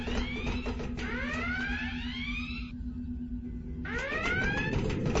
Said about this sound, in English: Wait! Did you hear that? Hear what? It's coming from the shuttle bay. The launch alarm. Has to be a malfunction.